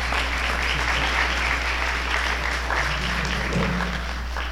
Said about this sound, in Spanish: Tome un fuerte aplauso, por favor.